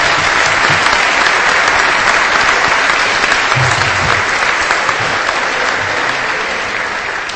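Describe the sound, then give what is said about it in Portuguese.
Sustained audience applause at a church ceremony granting a pastor the title of citizen of Garça, a dense, steady wash of many hands clapping at an even loudness, tapering only slightly toward the end. “Eu agradeço as palmas, mas eu acho que quem que merece palmas é Deus por ter honrado homens desse porte para estar presente nessa casa hoje.”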